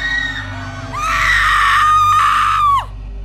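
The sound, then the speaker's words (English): A single loud, high-pitched scream from behind an old, rusted, closed door holds for nearly two seconds before trailing off in a sharp downward slide, set against a steady low rumble in the background. “As it got closer to the door, strange and sometimes even agonizing screams would become more audible.”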